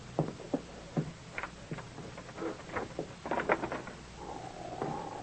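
A few sharp metallic clicks and rattles, like a lock being worked, followed by a drawn-out creak as the door of a bank in Curtis City swings open before opening time, with no voices.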